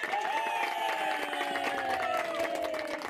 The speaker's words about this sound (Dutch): Nou, daarvoor krijg je wel even een applaus.